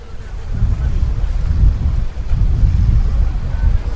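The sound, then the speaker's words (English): A green wooden fishing boat carrying fishermen back from the deep sea rumbles as it approaches the ocean shore, a steady, loud low-pitched drone mixed with gusty wind and the wash of surf, with no voices. “our conversation is interrupted by a green wooden fishing boat with fishermen from the deep sea approaching the shore, where women, men and children with baskets eagerly wait to buy fresh fish.”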